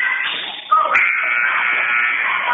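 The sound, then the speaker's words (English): A game buzzer marking the start of the second quarter in a game between the Banana Wolves and the Rookies from King Cove sounds through steady arena crowd noise, cutting in sharply and holding for a couple of seconds over the ambient roar. No one speaks. “There's a buzzer letting us know it's time to start the second and final quarter of the first half of this game against the Banana Wolves and the Rookies from King Cove.”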